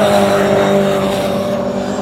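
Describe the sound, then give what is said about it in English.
A loud, sustained engine roar with steady harmonic tones, a race car running hard at speed over the curbs at VIR, continuous for the whole moment with no voices. “Getting the most of that curb here at VIR. They are just good looking cars.”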